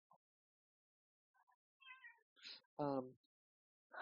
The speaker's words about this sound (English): I apologize if there are extremely loud kitten noises. She's trying to get onto my lap with the recording laptop here. So hopefully she doesn't give you all too many prompts.